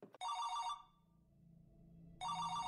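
A mobile phone ringtone chimes in two loud, bright bursts separated by a pause of roughly a second and a half, with a low hum in between and no voices.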